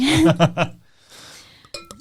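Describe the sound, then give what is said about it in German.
A voice speaks briefly, then wine is poured during a wine tasting, gurgling and splashing softly into a glass for about half a second, followed by a few bright, ringing glassy clinks. “Darf ich ihn einschenken?”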